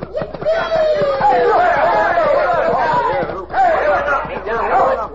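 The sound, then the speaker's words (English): A loud crowd commotion in a muddy street: many overlapping voices shouting and yelling at once in a dense, continuous roar as the crowd is tripped by a rope strung between two horses and tangles up in the mud, with a brief lull midway before the clamor surges back. “Look at the crowd. All tangled up in the mud.”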